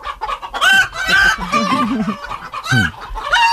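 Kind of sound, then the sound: sound effect, chicken clucking sound effect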